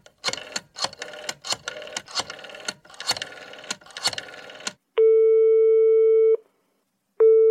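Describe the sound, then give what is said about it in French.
An outgoing phone call's ringing tone, a call to a general practitioner in Montpellier: a burst of irregular clicky dialing noises, then a steady, clear electronic ring tone lasting over a second, a short silence, and the next ring starting. “il attrape le téléphone, il a trouvé le numéro de Jean qui est maintenant médecin généraliste à Montpellier. Et il l'appelle.”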